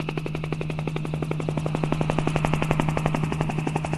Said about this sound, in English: Maybe it's a helicopter.